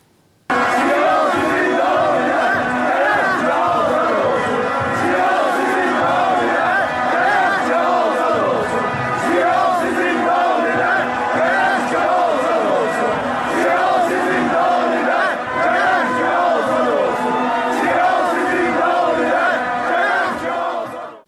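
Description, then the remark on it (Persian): A large stadium crowd of Tractor Sazi Tabriz football fans chants slogans in support of political prisoners during a match, a loud, dense roar of many voices rising and falling in rhythmic waves without pause for about twenty seconds. “جمعه که گذشت گروهی از تماشاگران تیم فوتبال تراکتورسازی تبریز در طول مسابقه و بعد از اون شعارهایی رو در حمایت از زندانیان سیاسی سر دادن.”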